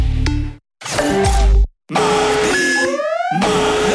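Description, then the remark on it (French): A loud electronic alarm sounds in bursts, with sustained beeping tones and rising sweeps over a busy, dense backdrop, broken by two short silences. “Cette alarme, c'est pour que je me souvienne que c'est le mardi malin chez Pizza Hut.”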